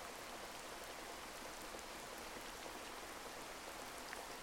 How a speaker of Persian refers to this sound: برای چند لحظه فقط از این احساس زیبا لذت ببرید و به صدای بارون گوش کنید.